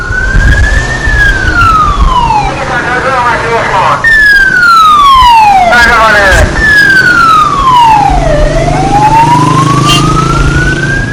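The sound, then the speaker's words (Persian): A loud siren of a Tehran emergency ambulance wails, its pitch sweeping slowly up and down in long repeating cycles over a steady low rumble of engine and traffic. “سری زنگ زدم اورژانس تهران، اومد در خونه، اومدن با برن کارت ازم بردن گذاشتن توی آمبولانس.”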